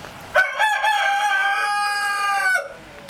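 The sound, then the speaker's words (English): A rooster on a farm crows once, a loud, sustained cock-a-doodle-doo with a few choppy opening notes and a strong, ringing harmonic tone lasting about two seconds. No one speaks. “They really do, and they start about 3 o'clock in the morning.”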